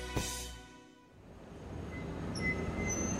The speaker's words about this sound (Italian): Attenzione! Treno in arrivo al binario 2. Allontanarsi dalla linea gialla. Firenze-Santa Maria Novella.